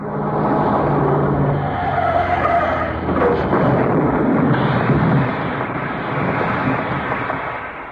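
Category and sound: vehicle, car skidding and crashing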